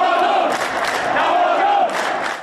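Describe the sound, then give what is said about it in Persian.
A large crowd of Esteghlal football fans in Tehran shouts together in unison, a loud, sustained roar of many voices with rising and falling chanted tones for a couple of seconds. “در تهران طرفداران تیم استقلال یک صدا فریاد زدند.”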